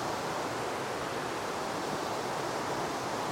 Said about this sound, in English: The river just underneath me is gushing quite wildly.